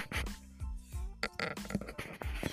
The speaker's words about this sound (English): And I have to sneeze.